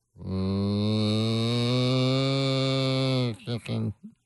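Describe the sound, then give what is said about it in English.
A person imitates a cow with one long, loud, droning moo lasting about three seconds, its pitch sinking slightly, then trailing off in a few short, choppy bursts. “Cow sound.”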